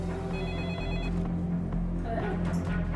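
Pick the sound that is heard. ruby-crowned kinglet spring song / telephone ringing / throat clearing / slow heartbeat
telephone ringing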